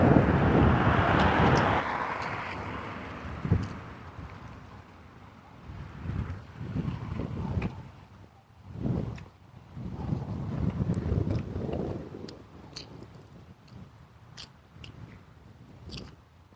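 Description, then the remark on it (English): Gusty wind buffets the microphone in low, rumbling bursts, loudest at the start and then rising and falling in waves, with scattered faint clicks and crackles over the blustery roar. “The wind is blowing against her, so I don't know.”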